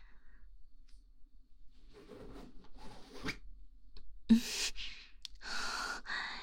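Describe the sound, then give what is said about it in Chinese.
A trouser zipper is pulled open in several quick, raspy strokes, with soft breathy sounds around them and no talking. “跪在老公的腿边，然后拉开放逸的拉链。”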